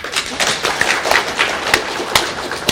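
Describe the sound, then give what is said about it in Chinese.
A church audience claps together to give thanks to God, a steady, dense patter of overlapping hand claps, moderately loud and sustained throughout, with a few sharper claps standing out and no voices. “我们感谢神，也感谢弟兄姊妹的劳苦中心，我们就用个掌声把感谢归给神。”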